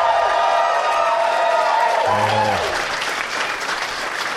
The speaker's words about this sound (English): My applause better be bigger than that.